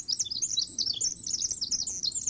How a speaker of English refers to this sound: That birds can hear so acutely the fine structure of song allows them to convey much information in a short sound. That's probably why, naturalist Rosemary Jealous writes, even the most extensive bird songs seem so brief to us.